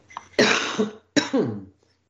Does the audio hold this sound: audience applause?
no